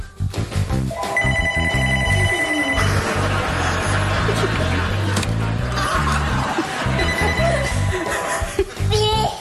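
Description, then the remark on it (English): A telephone rings loudly in two long bursts, its bright trilling bell filling the foreground over a busy, cluttered background with some laughter. “I've never been this excited to get a phone call.”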